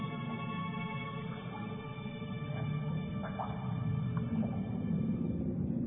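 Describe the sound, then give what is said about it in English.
Whale calls echo through a deep, continuous underwater rumble, with long droning tones and a few short rising moans midway. It stays steady and moderately loud, with no one speaking. “I'm going to die here in this whale.”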